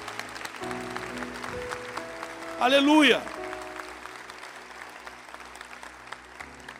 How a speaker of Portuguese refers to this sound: Se você quer dar um forte aplauso ao Senhor, em nome de Jesus de Nazaré, glória a Deus.